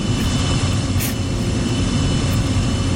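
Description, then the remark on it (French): A steady, loud roar of aircraft engines rumbles continuously with heavy low-end noise and a brief hiss partway through, like a plane powering up for takeoff, with no voices. “Bienvenue dans l'avion Air Combal 948.”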